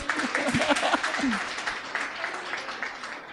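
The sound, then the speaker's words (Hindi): A crowd applauds steadily, dense clapping spread across the whole stretch at a fairly even loudness, with a few voices murmuring and calling out underneath. “तो फिर से एक बार ताली बजा दीजिए।”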